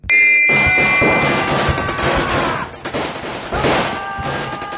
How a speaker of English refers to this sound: Gun upon gun spewed its guts out, and the ground physically shook underfoot.